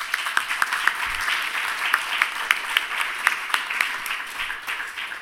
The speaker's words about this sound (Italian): Un applauso che vuole essere un grazie, perché anche oggi, anche questo colloquio è stato fecondo